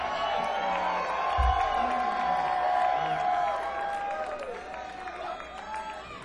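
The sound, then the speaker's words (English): A crowd applauds steadily for several seconds after a song at a live show, a dense wash of clapping mixed with cheers and a few whoops, holding at a fairly even loudness throughout. “You know, a lot of people couldn't get up here and not remember the song and still have people applaud for it, so I really appreciate that, guys.”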